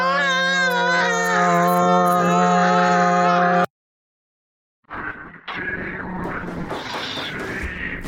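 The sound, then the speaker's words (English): Loud, sustained screaming from several people, done on purpose on a count of three, holds a steady pitch, then cuts off abruptly as one stops mid-scream. After about a second of silence, harsher, raspier screaming starts up again. “Do you know what would be quite funny if we scream and I stop in the middle of a screaming?”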